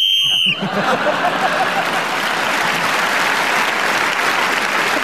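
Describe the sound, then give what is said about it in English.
A short, shrill referee's whistle blast lasting about half a second, blown to end a round, immediately followed by loud, sustained applause that continues to the end. “Whistle.”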